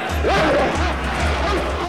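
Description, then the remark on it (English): Dogs, White Fang and a German Shepherd, bark and yelp in short rising bursts as they charge toward each other to fight, over a loud, continuous roar of a betting crowd and low rumbling, the whole scene chaotic. “The dogs charge towards each other.”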